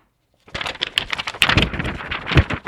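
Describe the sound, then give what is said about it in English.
Crisp rustling and crinkling of a piece of paper being handled, a rapid series of dry crackles and taps after a brief silence, with no voices. “That's a piece of paper.”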